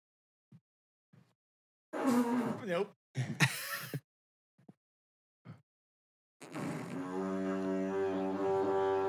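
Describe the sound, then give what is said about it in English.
A didgeridoo is blown: a few short sputtering and breathy blasts, then a loud, steady, buzzing low drone that holds for several seconds like a foghorn. “It sounds like a foghorn, horn, dude.”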